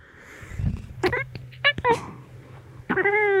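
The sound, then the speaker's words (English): A black cat meows into a microphone: a few short chirpy calls followed by a longer drawn-out meow, with low rumbling handling noise underneath and no talking. “Kitty, do you want to say anything for the podcast? Here, let me get the mic down for you.”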